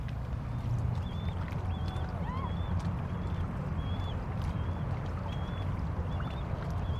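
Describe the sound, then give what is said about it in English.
Canoe paddles dip and pull through water in a steady rhythm over a continuous low rumble of moving water, with faint, regular bird chirps above. “Hit the water.”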